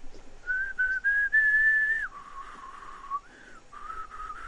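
A person whistles a simple tune with the lips, holding a steady high note, dropping to a lower sustained pitch, then rising briefly and returning, with no talking and a soft room background.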